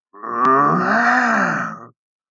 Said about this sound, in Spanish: Cuartán, antes simple sapito y ahora enorme felino, no pudo más y emitió un rugido que hizo que temblara las nubes.